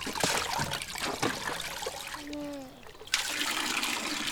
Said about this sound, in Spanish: A ver, la cabeza. Ahí te va el agua calientita. Cierra los ojos.